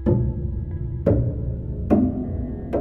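Four heavy, hollow knocks land at uneven intervals, each ringing out into a deep, lingering rumble, an eerie knocking sound effect set in a dark, eerily quiet mine with no voices.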